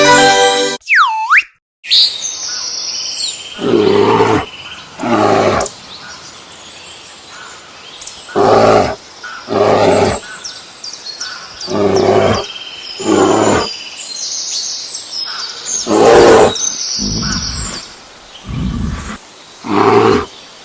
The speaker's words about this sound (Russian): Угадай, где медведь? Молодчина, ты справился, это медведь.